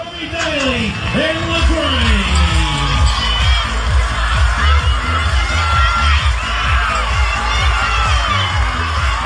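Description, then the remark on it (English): A rodeo crowd at Noonamar cheers and whoops continuously as Toby Daly rides the bull LaGrange for 8 seconds in the open bull ride, with rising shouts and yells layered over a dense roar of many voices, sustained at full volume for the whole stretch. “That is the sound of Toby Daly going 8 seconds on the Bull LaGrange to take out the open bull ride at Noonamar on the weekend.”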